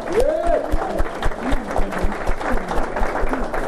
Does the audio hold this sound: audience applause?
yes